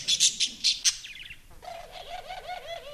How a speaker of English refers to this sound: There's a bowling alley, a billiards room, and a conservatory, home to cages of parakeets, canaries, and doves, the kind of birds that the DuPonts kept.